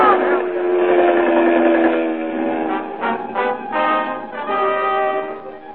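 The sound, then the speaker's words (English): A German Junkers dive bomber screams downward again and again toward men clinging to a tiny raft, in a loud, sustained siren-like wail, its harmonic tone holding steady before wavering and pulsing unevenly toward the end, with no voices. “Again and again, the German Junkers dive.”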